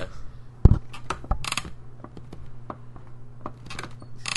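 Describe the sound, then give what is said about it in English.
A squeaky chair creaks and clatters as it is fetched and moved, with a sharp knock early on, then scattered clicks, rattles and brief scraping bursts over a low steady hum. No one speaks. “Squeaky chair's gonna retire now.”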